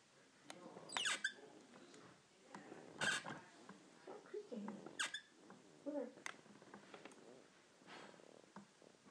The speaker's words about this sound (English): My rocking chair. Creak, creak.